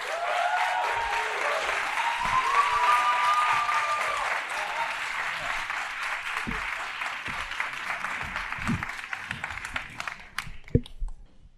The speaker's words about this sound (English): Can you please give a massive round of applause